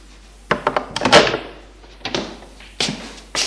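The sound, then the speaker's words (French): A door opening: a quick run of latch clicks and rattles, a short scraping sweep as it swings, then a couple of duller thumps, as a building concierge opens her door to a man who has knocked. No voices. “Qui lui ouvre.”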